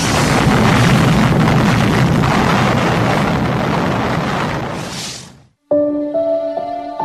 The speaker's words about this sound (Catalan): A les 8:15 del 6 d'agost de 1945, tal com estava previst, es va fer el llançament. Enola Gay va deixar anar la bomba des d'una altura de 9.450 metres i 43 segons més tard, quan el cap nuclear era a 600 metres d'Hiroshima, la van fer detonar.